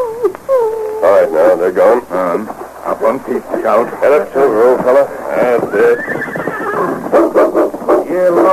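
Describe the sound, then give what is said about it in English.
A horse neighs in long, quavering whinnies that rise and waver in pitch across several seconds, loud, with voices talking underneath in a thin, broadcast-like recording. “Come here, horse.”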